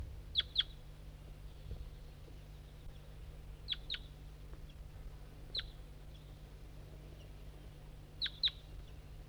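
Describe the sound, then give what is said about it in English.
A bird gives short, sharp double chirps, repeated four times at irregular intervals over a steady low hum, fairly faint, with no voices. “I don't see the wild bird and it has stopped calling.”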